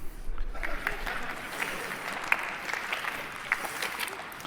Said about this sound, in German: Das heißt, auspfeifen oder buhen, das finden wir nicht cool, im Zweifelsfall klatscht nur ganz wenig und jetzt nochmal mit Husten bitte.